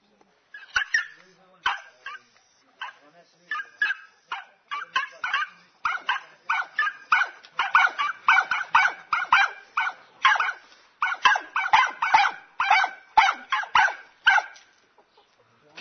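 A dog barks over and over in quick, yappy bursts, a near-continuous run of sharp, fairly high-pitched barks for about fifteen seconds, loud, with no one talking.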